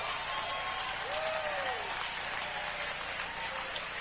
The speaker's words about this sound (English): Come on, clap your hands one time.